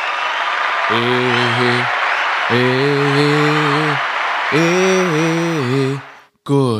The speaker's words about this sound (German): Und deshalb sagen wir hier vom Alama Pyjama Podcast danke Magawa und spielen jetzt mal einen ganz klaren Applaus.